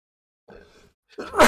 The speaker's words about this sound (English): I sneezed. Oh no. It's been coming for ages.